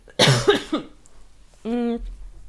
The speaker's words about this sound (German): Insofern, Moment, muss kurz husten.